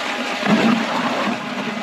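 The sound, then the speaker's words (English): A short burst of wet, gurgling snow and slush being shoved into an ice-fishing hole, swelling briefly before settling into a steady watery rush. No one speaks. “Put all your snow in the hole”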